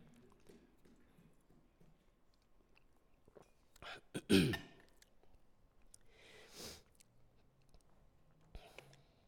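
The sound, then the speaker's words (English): A person takes a drink of water: a louder slurp or gulp, then a couple of softer swallowing sounds spaced a few seconds apart, with no talking. “Just going to take a drink of water here.”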